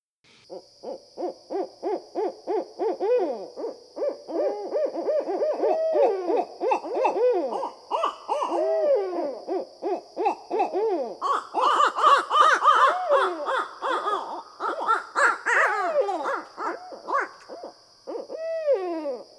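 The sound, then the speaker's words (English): Barred owls hoot and cackle in a loud, nearly continuous run of rapid, wavering calls that swell into a frenzied chorus, with a steady high insect-like drone behind them. “Until the 20th century, barred owls were residents of old, undisturbed forests in eastern North America.”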